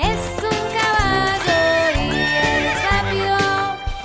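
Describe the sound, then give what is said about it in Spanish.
A horse whinnies with a wavering, shaky cry, heard over bright, continuous music with a steady bass line, all fairly loud. “¿Qué es eso? Es un caballo y es rápido.”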